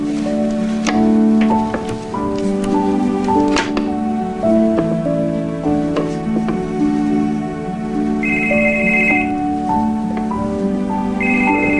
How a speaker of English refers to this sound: He answers his cell phone.